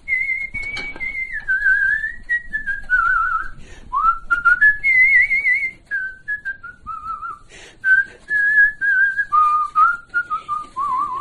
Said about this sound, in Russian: Хожу и все насвистываю что-нибудь. Какую-нибудь песню вспомню, я насвистываю.